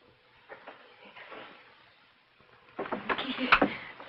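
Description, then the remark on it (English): A door is desperately pulled and rattled hard by a woman, a burst of loud, rapid clattering jolts, following a few seconds of quieter shuffling and knocking. “She pulls at the door desperately.”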